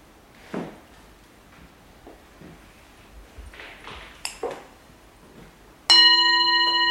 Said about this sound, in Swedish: När man lyssnar på klockor, säger Kiva, då ska man lyssna på tystnaden innan klockan har klingat